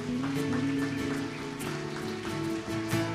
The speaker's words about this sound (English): Let's give him a hand clap, yeah.